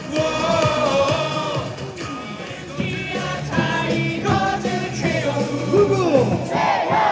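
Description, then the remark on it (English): A large crowd at a South Korean baseball stadium chants and sings player Brito's cheer song in unison, loud and sustained throughout, with voices rising and falling together and occasional yells on top. “My cheer song here is really popular. People love it.”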